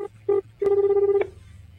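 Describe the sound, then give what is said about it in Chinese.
A phone ringback tone on an outgoing call to Japan: a short steady beep, another short beep, then a longer sustained tone cut off abruptly, clear with no one speaking. “假期太无聊，打个电话给小日子，往这儿看。”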